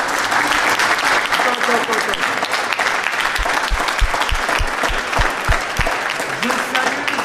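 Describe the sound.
A crowd breaks into sustained applause for the striking intermittent workers of Roubaix occupying the Colisée, dense clapping that stays loud and steady throughout, with a run of sharp low thumps partway through and faint voices mixed in.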